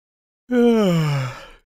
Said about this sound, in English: Quit yawning. I'm trying to read. Sorry, I'm just tired today.